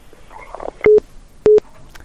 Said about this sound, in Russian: А у нас звоночек в эфире. Одну секундочку. Алло, мы вас слушаем, вы в эфире.